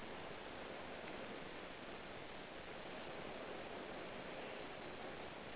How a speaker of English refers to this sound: Listen to the sound of the waves and their whooshing.